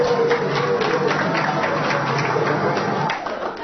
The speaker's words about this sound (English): Give yourselves a clap, guys.